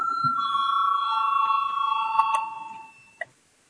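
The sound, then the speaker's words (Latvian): A steady electric bell rings continuously for about three seconds with a bright metallic tone in the Latvian parliament, the Saeima, calling a vote on an amendment proposal, then cuts off, followed by a single faint click. No one speaks. “Lūdzu zvanu balsosim par otro deputāta Vucāna priekšlikumu.”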